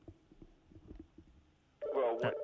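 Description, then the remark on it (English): Quiet, muffled voices give way to a telephone suddenly ringing, a loud electronic tone with warbling harmonics that starts abruptly near the end and keeps going. “I didn't turn the phone off, so it's going to sound.”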